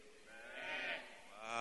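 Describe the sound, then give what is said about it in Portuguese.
Several people of a church audience imitate a sheep's bleat together, a drawn-out, wavering baa that swells midway, dips briefly, then rises again at the end, with no talking. “Qual barulho a ovelha faz?”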